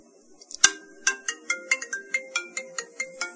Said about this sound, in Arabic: الان راح ادور بلمس عشوائي على شيء اسمه ميكا كول، نضغط عليها ونقفل الجهاز كذا ونحطه على الطاولة كأننا ما ندري عن شيء. الآن حيدق الجوال.